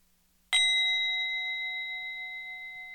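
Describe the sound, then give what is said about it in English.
A single chime is struck once by a facilitator between readers in a writing circle, ringing out bright and clear with several pure tones that sustain and slowly fade across the quiet that follows. No voices are present. “One of our practices at Women Writing is the facilitator chimes between each person who reads in the circle.”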